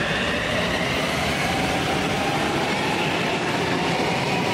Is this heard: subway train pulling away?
yes